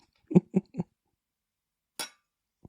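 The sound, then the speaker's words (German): A single bright clink of glasses in a toast to love rings out, fairly loud, after a few short, muffled low knocks, then quiet. “Lass uns trinken auf. Die Liebe. Den Motor. Und Antrieb. Für alles. Prost, Süße. Prost.”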